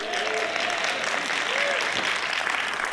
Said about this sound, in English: Oh, let me try this side over here because you guys missed it completely. How about a little clap on that one?